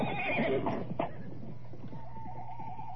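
A horse whinnies loudly near the start. Then hooves clip-clop in a steady trotting rhythm as riders trot two horses, each carrying a large bag of medicine, through the streets of Lincoln, over a constant low rumble, with no one speaking.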